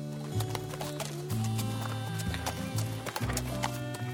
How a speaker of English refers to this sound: And now it's time to ride on the horses.